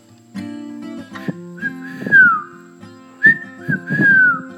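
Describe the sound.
A person whistles two short phrases imitating a bird call, each rising into a bright sliding chirp, clear with brief pauses between them.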